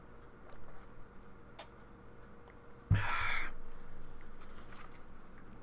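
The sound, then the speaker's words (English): Someone takes a quick sip of water: one short slurping gulp, followed by soft breathy noise and low background hiss, with no talking. “Let me grab me a real sip of water real quick.”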